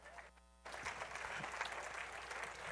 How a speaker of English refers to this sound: All right, give him a good clap.